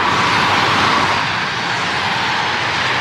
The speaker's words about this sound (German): Im Sekundentakt fahren die Lastwagen und die Autos über den Teer der neuen Autobahn A4 rein und suchen sich nicht mehr den Weg über die Hauptstrasse im Dorf, der Zürcher Strasse.